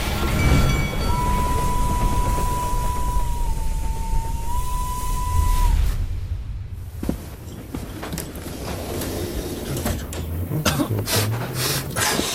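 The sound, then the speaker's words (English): A train rumbles steadily along the rails, heard from a club car of an American train, with a thin, sustained whistle-like tone for several seconds before the noise drops and scattered clicks and clacks from the carriage follow. “One of the few club cars in America, I think.”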